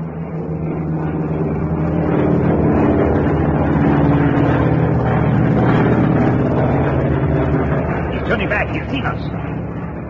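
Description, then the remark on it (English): A loud, steady drone from the engine of a coastal patrol aircraft fills the whole stretch at first light off the Australian coast, a continuous roar that swells slightly in the middle as the plane passes over. “It's getting light now, and I'm sure there'll be coastal air patrols which are bound to see us.”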